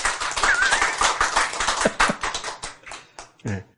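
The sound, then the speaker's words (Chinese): An audience at a Buddhist sutra lecture bursts into dense, rapid applause of many hands clapping at once, then the claps thin out into a few scattered, separate slaps before fading, with faint voices mixed in. “所以你看这个法门赞不赞？赞，拍手。”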